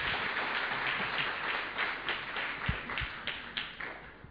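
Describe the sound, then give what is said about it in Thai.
A crowd claps steadily, giving a warm Rhema welcome to two returning speakers: a dense patter of many hands with a few sharper individual claps standing out near the end, fairly quiet overall and without speech. “ให้เราปรบมือต้อนรับอย่างอบอุ่นนะคะ”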